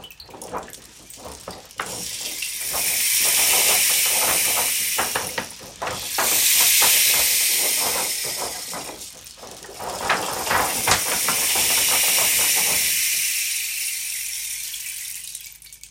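A terrible evening thunderstorm with lightning and thunder: heavy rain pours down in a dense, steady hiss that swells and eases in three long waves, with crackling bursts running through it, before it thins out near the end.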